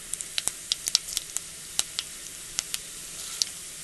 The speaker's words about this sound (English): I'm going to go ahead and add the asafoetida. See the sizzling? Can you hear the sizzling? And now I'm going to add the cumin seeds.